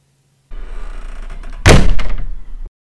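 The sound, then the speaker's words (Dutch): A single door slams hard after a low rumbling lead-in, the impact sharp, booming and harshly overdriven, as if recorded too hot, then quickly dying away. No one speaks. “Wees klaar voor de volgende klap, want eerst komt de deur zoals ik hem importeer. Dus die eigenlijk te hard is opgenomen.”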